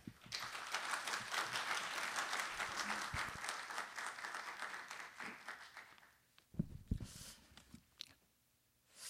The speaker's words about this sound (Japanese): それでは畑平氏、盛大に拍手でお迎えくださいませ。